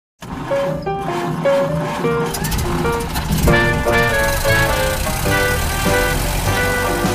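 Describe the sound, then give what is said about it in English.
A really old vintage car chugs along steadily, its rattling engine droning for several seconds while shifting tonal, horn-like notes ring over the rumble. No one speaks. “For the sake of it, let's imagine a vintage car, a really old one.”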